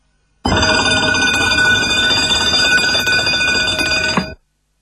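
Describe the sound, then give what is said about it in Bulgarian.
A mechanical alarm clock bell rings continuously for about four seconds, a loud, rapid metallic clatter with bright ringing overtones, then stops abruptly. No voices are heard. “Будилникът не е обикновен часовник с звънче.”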